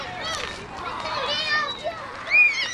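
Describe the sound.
Toddlers' high-pitched voices chatter and squeal together in the yard of a Head Start Center attached to a local public school in the afternoon, a busy overlapping jumble of play sounds with occasional brighter shrieks rising above the mix.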